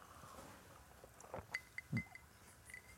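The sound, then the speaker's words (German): Glasses clink together in a toast, a few light, bright taps with a short ringing tone, fairly quiet, along with a soft low knock and faint background rustle. “Komm. Prost.”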